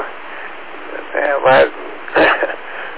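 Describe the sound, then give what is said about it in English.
Two short, harsh bursts of coughing and throat clearing, about half a second apart, loud, over a steady hiss like a narrow radio channel. “Excuse me while I'm coughing here, stand by one.”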